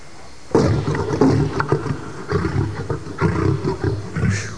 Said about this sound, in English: The hair on my neck stood straight up. When they're angry or agitated, you can hear their roars echo throughout the zoo.